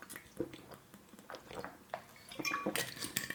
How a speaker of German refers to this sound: Prost, ich trinke mal einen Schluck Wasser.